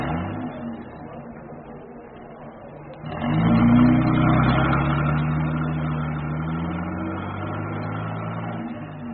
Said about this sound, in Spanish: Tatake hace funcionar el motor del auto y se aleja por las estrechas callejuelas del barrio.